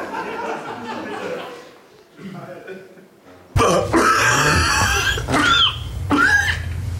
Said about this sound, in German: Gibt es irgendeinen Huster, den ihr gerne nochmal hören wollt, wo ihr euch nicht sicher seid? Die 8 bitte nochmal.